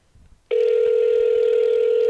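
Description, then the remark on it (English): After a brief quiet moment, a phone's ringback tone kicks in on an outgoing call: a loud, steady mid-pitched electronic hum that holds unbroken to the end, with no voices. “Very long ringtones there.”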